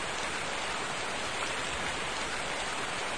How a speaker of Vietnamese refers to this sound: bên ngoài mưa to gió lớn, anh muốn đi đâu vậy?